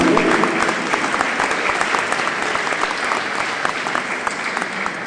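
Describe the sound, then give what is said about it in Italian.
Steady applause from a crowd welcoming the new mayor of Montanalba, a dense patter of many hands clapping at an even loudness throughout, with no voices standing out above it. “E per questa occasione vorrei, parlando delle Rocche, salutare anche e applaudire il nuovo sindaco di Montanalba.”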